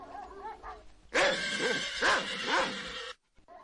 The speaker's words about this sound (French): Le lendemain, à l'heure dite, la cour du château retentissait de l'aboi des chiens et du hennissement des chevaux.